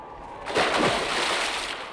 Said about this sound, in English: He's fallen in the water.